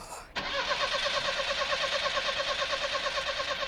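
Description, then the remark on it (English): A car's starter motor cranks steadily with a rapid, rhythmic whirring chug that never catches, the engine failing to fire. It is fairly loud, with no talking. “Oh, it's the car. I can't start it.”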